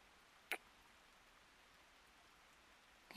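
Steady, soft rain hisses continuously, fairly quiet and even throughout, with a single sharp tap early on and another near the end.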